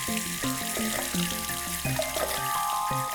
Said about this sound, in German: Denn es ist ein echter Schatz, der da aus der Tiefe kommt und so selbstverständlich aus dem Hahn strömt.